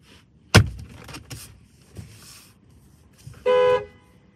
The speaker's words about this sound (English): Honking at my dog to stay out of the trash.